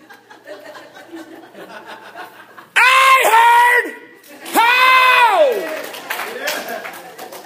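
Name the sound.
audience shouting and applauding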